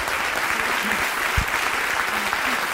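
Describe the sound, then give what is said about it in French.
Sustained audience applause, a standing ovation, a dense wash of many hands clapping at steady volume, with no talking over it. “Un triomphe. Une standing ovation.”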